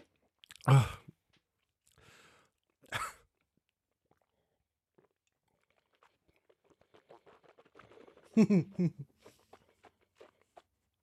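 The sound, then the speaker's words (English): Someone chews food: two sharp, loud crunches early on, then a steady run of small wet clicking and smacking sounds, with another loud crunchy burst partway through. “I made the mistake of chewing it mostly on one side.”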